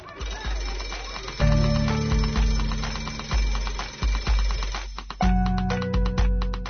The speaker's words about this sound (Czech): To je tako dok školsko zvono ne oglasi početak časa. Onda se sve utiša.